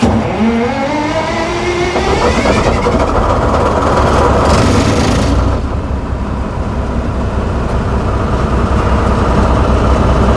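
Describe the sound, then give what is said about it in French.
Heard from inside the driver's cab, a locomotive's diesel engine, already warm from running that morning, is started directly without preheating; it cranks and spins up with a rising whine, then settles into a loud, steady, heavy rumble that continues to the end. No voices. “Donc il est déjà chaud, il a tourné ce matin, donc on ne va pas attendre la préchauffe moteur. On va lancer directement.”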